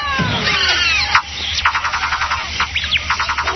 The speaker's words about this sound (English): And just got rid of the snake there. You just heard the snake.